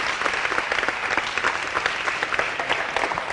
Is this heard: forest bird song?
no